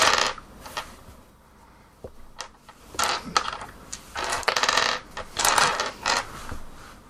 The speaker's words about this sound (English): I'm not rolling dice for no reason. No, that's what we're talking about. I'm rolling my dice for the blue lamp.